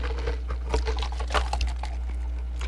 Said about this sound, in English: Let's talk about this drink for a second. Has it grown on you? Actually, like, yeah. Hold on. Let me get another sip.